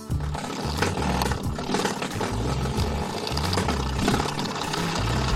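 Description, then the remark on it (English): A spring doorstop batted by a cat, giving a loud, buzzing, rattly twang that pulses in a low, uneven rhythm and keeps going for several seconds, with no voices. “Nope, it's a cat playing with a doorstop.”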